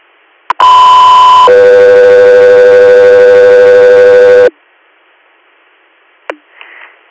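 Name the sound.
radio dispatch alert tones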